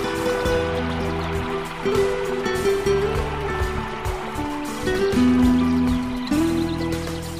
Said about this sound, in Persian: گوش کن. صدای پای آب.